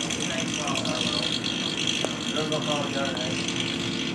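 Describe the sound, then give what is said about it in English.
A bus engine rumbles and rattles steadily throughout, constant, with a brief sharp click midway and faint voices murmuring beneath the mechanical noise. “Oh my God, this train, this bus is scary.”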